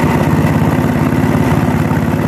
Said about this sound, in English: Can JB Weld fix it? So we're going to give it a shot and see if she starts up. Oh, it was a generator. Gas generator. Look at that.